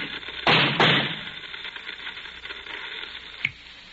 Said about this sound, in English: what's the shooting?